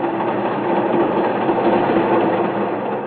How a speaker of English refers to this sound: This train is on its way to Lake Placid.